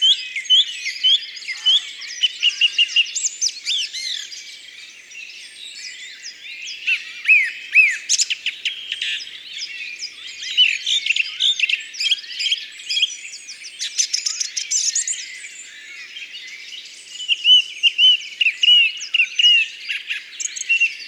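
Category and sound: bird, song thrush singing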